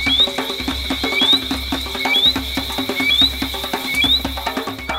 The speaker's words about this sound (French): Cette nuit-là, dans ce coin de la Guadeloupe, seules les grenouilles sont heureuses.